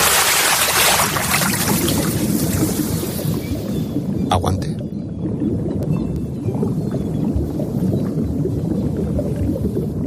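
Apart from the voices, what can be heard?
diving into water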